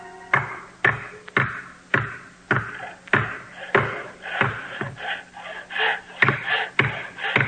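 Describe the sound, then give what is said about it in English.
Steady hammering of nails into a cottage roof under repair: about fourteen sharp, ringing blows in an even rhythm, each with a brief woody resonance, with no talking. “Oh, that's the last nail, and the roof is fixed.”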